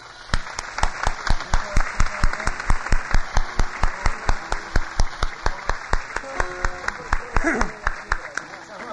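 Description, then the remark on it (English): An audience at a festival claps for two of the festival's organizers in a steady, even rhythm, about three loud claps per second sustained throughout, with faint voices underneath and a brief vocal shout near the end. “Why don't we join and give them a good round of applause to them?”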